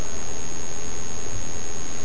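A car engine hums in a steady, unbroken rumble, heavy in the low end with a hissing wash on top, holding at an even level for the whole stretch with no voices.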